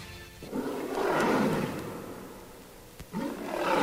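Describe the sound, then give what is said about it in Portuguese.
A lion roars loudly, one long rumbling roar swelling and fading, then a second roar starting right after a brief pause. No one speaks. “Solta o leão.”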